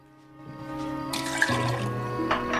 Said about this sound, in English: He pours the bourbon away.